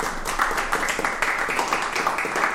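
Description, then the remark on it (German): A live audience at a recording in the SWR Pop-Up-Studio in Kaiserslautern applauds steadily, a dense patter of many hands clapping at once with no pauses, holding an even, moderately loud level throughout. “Ihr hört's, wir zeichnen heute im SWR Pop-Up-Studio in Kaiserslautern auf und wir sind nicht alleine, ihr habt's gehört, schön, dass ihr da seid.”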